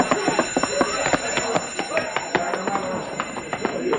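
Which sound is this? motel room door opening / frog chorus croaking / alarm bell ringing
alarm bell ringing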